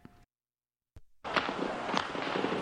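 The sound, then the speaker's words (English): Dense, continuous crackle of gunfire in the center of Peking (Beijing), with sharp overlapping reports and a steady roar of noise behind them, breaking in after a brief pause and lasting unbroken to the end. “The noise of gunfire rose from all over the center of Peking.”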